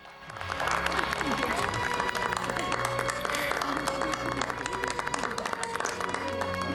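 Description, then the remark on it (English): Museum visitors applauding after a couple kisses following a marriage proposal. Dense clapping rises quickly and holds at a loud level throughout, with cheers and voices mixed into the noise. “They kiss and the museum visitors applaud.”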